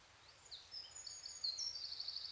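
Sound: birdsong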